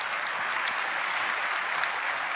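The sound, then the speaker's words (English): An audience applauds steadily, a dense wash of many hands clapping at an even, sustained loudness with no voices on top. “And you can see this woman just going, oh, you know, she's just thanking God for, yeah, you can clap for that. You should clap.”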